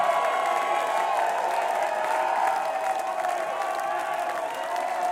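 A concert crowd at the Eclipse Theater claps and cheers for a band after its show in a steady, dense roar, with whoops and shouts blended into continuous applause that holds at a loud, even level throughout.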